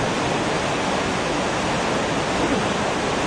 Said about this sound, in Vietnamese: Hiện nay trời đang mưa to gió bắc nhiệt đới, những cái tiếng mưa nặng hạt trên các mái con tạo ra những âm vang không.